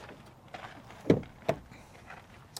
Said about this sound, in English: Okay. Let's get in. Can you open the front door? Yeah, let's check it out.